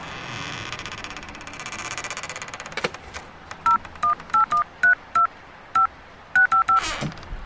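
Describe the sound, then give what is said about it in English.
Telephone keypad tones in a phone box beep out a number, roughly a dozen short, clear dual-pitched bleeps in an uneven rhythm, following a fading low engine-like rumble and a click. “Ah, look, over there, phone box.”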